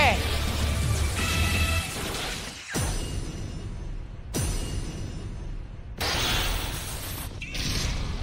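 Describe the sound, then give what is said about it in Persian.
Loud, roaring video game explosion effects come in several broad noisy bursts, each cut off abruptly, with crashing, whooshing layers and a low rumble underneath, as two game characters are blasted into the air and the character Lavinor explodes under pressure. “وای عجب انفجاری، هر دو به هوا پرتاب میشن.”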